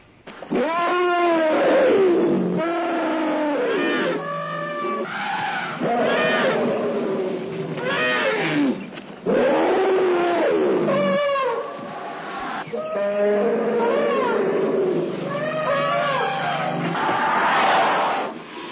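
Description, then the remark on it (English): Several elephants call loudly, with overlapping roars and rumbling, trumpet-like bellows rising and falling in bursts over about nineteen seconds, with no clear talk. “playing with the elephants. Many elephants.”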